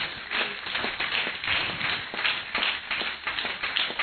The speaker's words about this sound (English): Give the Lord another clap offering.